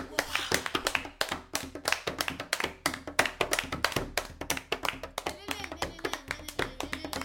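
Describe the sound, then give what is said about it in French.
Djembe drumming from a played news report set in Africa: fast, steady hand strikes in a dense, lively rhythm, each hit sharp and punchy, with voices mixed in underneath toward the end. “Écoutez les djembés là-bas.”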